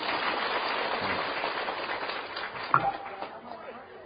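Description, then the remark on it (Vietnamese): An audience at a Buddhist dharma talk applauds, a dense, steady crackle of many hands clapping together that holds for several seconds before gradually thinning out. “Giỏi quá, cho tràng pháo tay đi.”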